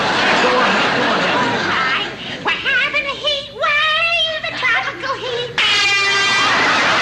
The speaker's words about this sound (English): holds up an air horn. What he's gonna get the next time he starts singing in the middle of the night.